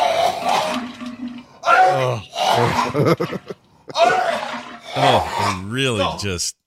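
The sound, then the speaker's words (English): A voice imitates canned vegetable soup sliding out of the can: a string of raspy, gurgling vocal bursts with wobbling pitch and brief pauses, finishing in a quick, rising squelch. “You can hear the veggie soup coming out of the can and right into the can.”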